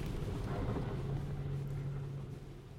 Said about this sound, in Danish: Og det er også en særlig teknik. Det er ikke noget, man bare lige skal give sig i kast med, selvom bilen den kan. Men nu kører vi igen med et vandhul en gang til.